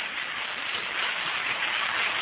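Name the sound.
rain falling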